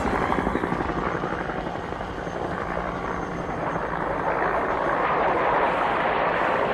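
Loud, steady noise of helicopters in action, supported by South Vietnamese infantry: a rapid rhythmic rotor chop over a dense engine roar, continuous as they pass overhead.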